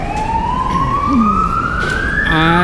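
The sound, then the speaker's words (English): An ambulance siren blares as it passes, a long rising wail that switches into a rapid warbling yelp near the end, over steady road noise. “My understanding of this entire topic, I think it's, is that we allow the ambulance to pass.”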